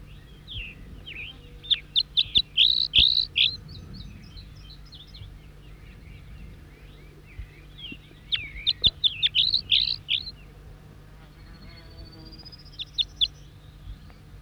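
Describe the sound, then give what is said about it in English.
A wild bird sings repeated bright, high-pitched song phrases in two clear bursts, responding with the same song phrases, with quieter chirps and a thin rising whistle between them over a low steady hum. “Four, three, and back, responding with the same song phrases. Wild bird.”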